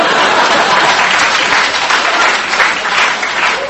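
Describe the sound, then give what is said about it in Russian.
A dense, steady burst of applause from an audience of young women, loud, sustained for several seconds with many hands clapping at once and no pauses. “Девушки аплодируют, я вижу.”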